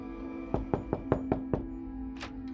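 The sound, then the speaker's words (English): Knocking on the wooden door of Kasim's home in the afternoon: six firm, evenly spaced raps, a brief pause, then a quick double knock, with a faint steady hum underneath and no voices. “Kasim's wife Zara greeted Karima coolly as she opened the door.”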